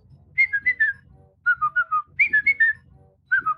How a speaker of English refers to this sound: Now remember, there are a lot of people inside. Do you remember our whistle?